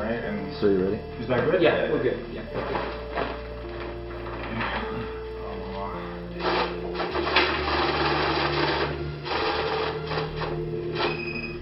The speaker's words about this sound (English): That noise you're hearing is a money counter. A money counter is about the size of a small printer. There's a tray at the top where you place the bills. And then those bills are sent to a lower tray as they're counted by the machine.